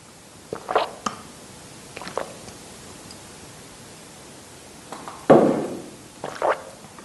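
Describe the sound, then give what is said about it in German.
Someone drinking a little water: a few short sips and swallows separated by quiet pauses, with a soft thunk near the end, over a faint steady hiss and no talking. “Ich trinke gerade ein bisschen Wasser.”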